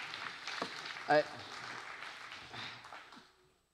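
A church audience claps in thanks for a man in a steady, dense wash of applause that holds for a few seconds and then tapers off into quiet.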